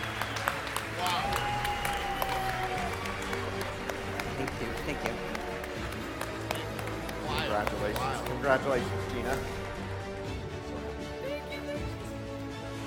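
An audience claps in a steady, dense round of applause lasting several seconds, with a few whistles and cheers rising over the crowd noise.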